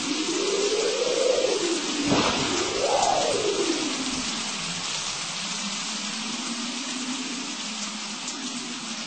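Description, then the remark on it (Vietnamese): Heavy rain pours down in a dense, steady hiss that fills the whole clip, while a low moaning tone swoops up and down beneath it early on before settling into a faint hum. “Mưa, mưa khủng khiếp, không biết cơ man nào là nước.”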